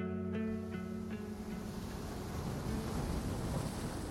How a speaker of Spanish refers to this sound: El ruido de las olas era ensordecedor. Unas olas a las cuales no podíamos ni acercarnos en esas aguas cálidas del Pacífico mexicano, bordeadas de una arena suave y limpia que apenas pisaríamos.